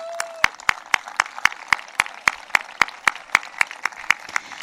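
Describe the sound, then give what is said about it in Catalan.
An audience applauds steadily in tribute to Josep Vilalta and his many years of work, with sharp, evenly spaced claps standing out in a quick rhythm over a continuous wash of clapping. No one speaks. “Jo fins i tot faria un aplaudiment per ell.”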